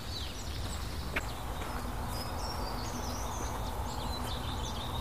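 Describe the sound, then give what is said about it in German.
Tits give repeated thin, agitated calls while a soft, fluting song of a common redstart drifts in the background, all over a steady low outdoor rumble with no talking. “Die Meisen regen sich auf.”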